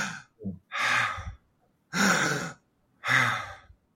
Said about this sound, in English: If you think about, let's think about 20 breaths a minute, that means that you're breathing in for 1.5 seconds and exhaling for 1.5 seconds. Let's just do that for your listeners.